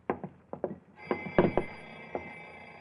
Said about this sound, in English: What's that? My alarm clock in the bedroom. It doesn't sound like it. Wait a minute. Right here, under the floor. I'm standing over it.